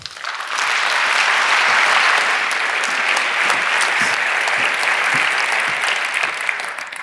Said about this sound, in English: Please give a round of applause to the next speaker